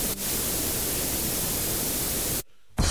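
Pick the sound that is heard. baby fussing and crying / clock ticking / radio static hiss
radio static hiss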